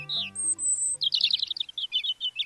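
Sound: european robin song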